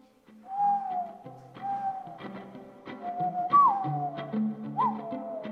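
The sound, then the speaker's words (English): Human whistling glides and swoops over soft, low cooing tones of a mourning dove's call, layered into a steady, moderately loud musical bed with no talking. “And so I was just whistling that mixed with the mourning dove.”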